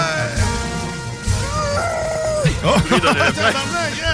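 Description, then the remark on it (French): Elephants coming in trumpet, a long, loud brassy call followed by a flurry of shorter, wavering blasts, with a low murmur of people in the background. “Oh, là, je vais devoir t'arrêter, il y a les éléphants qui rentrent. Oh, et voilà, mesdames et messieurs. Allez-y, les éléphants.”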